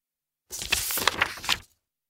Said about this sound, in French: Crac ! Un poussin fend la coquille et montre le bec.